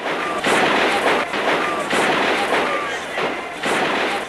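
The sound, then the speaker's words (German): Dense, crackling gunfire fills the whole stretch, coming in sustained bursts that swell and ease, loud and harsh: soldiers firing machine guns, first over people's heads and then lower, in front of the radio building in Prague, with noisy, echoing surroundings. “Die Soldaten feuern zunächst mit ihren MGs über die Köpfe, dann zielen sie tiefer.”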